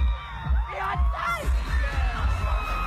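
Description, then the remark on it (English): A man screams and whoops excitedly at a singer's concert in 2016 over a loud, roaring crowd, his voice rising and falling in strained bursts against steady cheering throughout the short stretch. “You she waves at because you've been practicing screaming at her for years now.”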